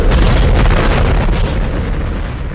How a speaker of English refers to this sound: 7, 6, 5, 4. We've gone for main engine start. We have.